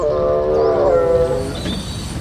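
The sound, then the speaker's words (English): A train grinds to a halt, its brakes letting out a loud, drawn-out metallic squeal over a steady low rumble of the wheels, fading slightly toward the end. “Why is the train stopping?”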